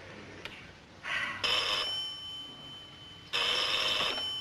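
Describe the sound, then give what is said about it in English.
An old-fashioned Western Electric telephone, known as a Lucy phone, rings its bell in two loud, rattling bursts separated by a short pause, the second ring cut off at the end. No one speaks. “That's a Western Electric phone.”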